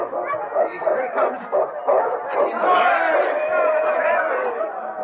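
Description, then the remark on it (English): An excited crowd at a dog sled race finish line clamors with many overlapping shouting voices as the lead dog King, a Malamute, crosses the line, while dogs bark and yip through the din; the noise stays loud and continuous throughout. “The crowd pressed close as King crossed the finish line.”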